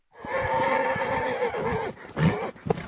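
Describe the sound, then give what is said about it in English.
A Spanish horse in horse country in the south of Spain whinnies loudly, a long shaky neigh with strong harmonics that trails off, followed by a few snorting breaths and shuffling sounds. “the construction boom fed a demand for luxury goods, including purebred horses”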